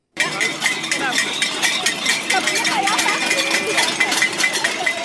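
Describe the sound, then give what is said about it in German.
A dense, continuous din of clanging metal and banging percussion as several hundred people strike drums and pot lids at a climate alarm protest in Bern, Switzerland, on a Saturday, with scattered sharp clinks and crowd voices mixed throughout. “Mit Trommeln, Pfannendeckeln und allem, was sonst so Lärm macht, haben am Samstag in Bern gleich mehrere hundert Personen Klimaalarm geschlagen.”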